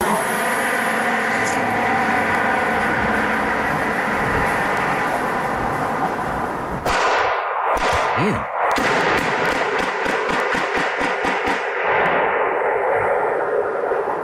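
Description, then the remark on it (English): Recorded on a neighbor's Ring doorbell camera in North Buckhead that caught a car flying down the street: a steady rushing roar runs for several seconds, then a long, rapid burst of sharp gunshots cracks out, a dozen or more loud pops fired in quick succession before stopping abruptly. “And so I want to brace yourself, trigger warning, because neighbor had a Ring cam and caught the car flying down the street. And so I just want to brace yourself. You're going to hear some shots.”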